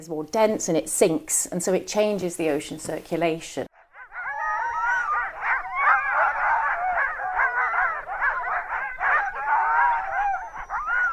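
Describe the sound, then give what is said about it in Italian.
A voice speaks briefly, then a loud, continuous chorus of many sled dogs in northern Greenland takes over, overlapping barks, yelps and whimpers blending with high howls for several seconds. “I cani da slitta sono la colonna sonora che accompagna un po' tutta la Groenlandia settentrionale.”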